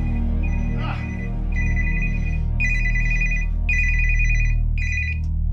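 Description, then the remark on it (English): A mobile phone rings with a bright electronic ringtone, repeating in steady bursts about once per second, fairly loud, over a low background hum. “It's my phone. Who could this be?”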